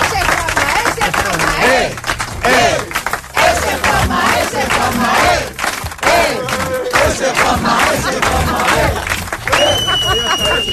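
Loud, steady audience applause mixed with cheering and shouting voices carries on without a break, and a high whistle rings out near the end, applauding an artist who made a drawing during the programme.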